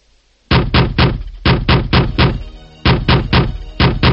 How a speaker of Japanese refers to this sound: ノックの音だ。